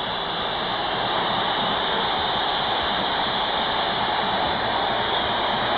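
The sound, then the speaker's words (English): A large arena crowd at a game cheers in a dense, unbroken roar that holds at a steady, loud level for several seconds, with no single voice standing out and no speech. “Listen to this crowd. They speak for us.”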